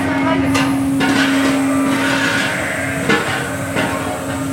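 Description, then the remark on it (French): A livestock feeder machine distributing feed to sheep rumbles loudly and steadily, a droning mechanical hum much like a locomotive, broken by a few sharp metallic clanks. “On dirait une locomotive.”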